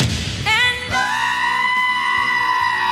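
A goat lets out a loud, drawn-out scream that sounds almost human, starting with a wavering bleat and settling into a long, steady, piercing cry that fills the whole clip.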